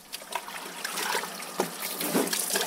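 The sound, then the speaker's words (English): Steady spray of water hissing and splashing, broken by small irregular spatters, fairly loud with no voices, as water is sprinkled on imported vehicles at a car shop in Lagos, Nigeria, washing off dust from the road. “Most vehicles imported through Nigeria's land borders end up in a car shop like this, where water is first sprinkled on them as the dust from the road is washed off.”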